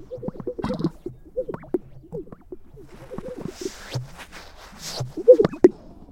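A male bird's display call, given as males compete for a central spotlight position: a run of low, hollow whoops and wobbling hoots broken by sharp pops and a few breathy, hissing bursts, uneven in rhythm and growing louder near the end.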